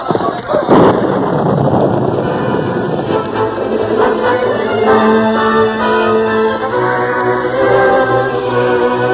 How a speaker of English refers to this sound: at that moment, the storm broke in all its fury